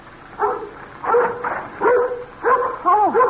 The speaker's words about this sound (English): now you stop your barking.